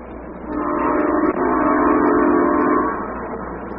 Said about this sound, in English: That train's always on time. The 4 o'clock, huh?